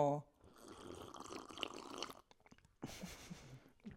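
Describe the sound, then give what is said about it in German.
Two ceramic mugs clink together in a toast with a brief ringing tone, followed by soft liquid and sipping sounds of water, then a short pause and more quiet drinking noises. “Erstmal sollten wir anstoßen, Mama. Ja. Auf diese wundervollen Tassen.”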